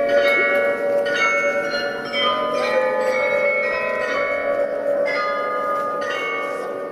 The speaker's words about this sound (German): Diese Melodie habt ihr wahrscheinlich auch schon mal gehört. Es ist das Glockenspiel aus dem Rathausturm am Marienplatz. Das sind die bunten Figuren, die sich im Turm oben zur Melodie drehen.